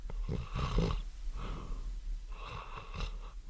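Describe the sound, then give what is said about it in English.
A person imitates snoring with a few raspy, wheezing inhale-and-snort sounds, fairly loud, with brief gaps between them. “This is a snore.”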